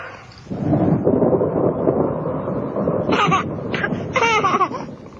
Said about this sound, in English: The storm must have woken him. Well, he woke the storm.